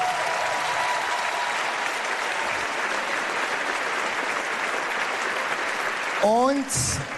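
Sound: audience applause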